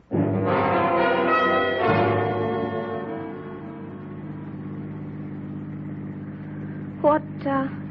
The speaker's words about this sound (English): The train has come to the end of the line. Last stop, all out.